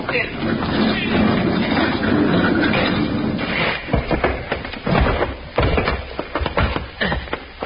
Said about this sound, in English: Push the door back. Let's get in there.